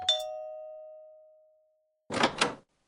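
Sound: doorbell ringing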